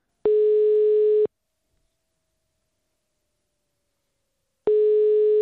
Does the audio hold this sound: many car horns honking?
no